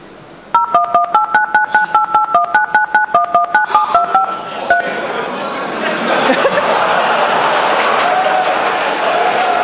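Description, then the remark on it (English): The Big Bang Theory sitcom theme melody beeped out on telephone keypad tones and played as a quiz bonus question. A quick run of rhythmic two-tone beeps shifts in pitch for about four seconds, followed by steady audience chatter. “Exactly. The Big Bang Theory.”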